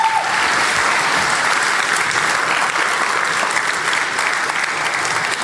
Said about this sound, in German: Applaus für die Lounge.